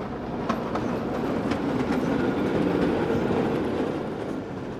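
Train wheels rumble steadily over the rails with a few sharp clacks at uneven intervals, fairly loud with no voices.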